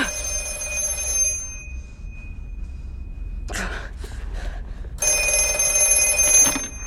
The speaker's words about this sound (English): And as soon as he starts to open the door to leave, he gets a call on the ghost phone. He goes over the ghost phone and he answers it.